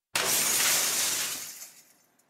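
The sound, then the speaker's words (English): A sudden, loud smash of old window pane glass struck with a hatchet, with a bright burst of shattering pieces that rains down and fades out over about two seconds. No one speaks. “Next, we took a hatchet to some old window panes. We even smashed the old Sound Ideas office door to get some even bigger glass smashing sounds.”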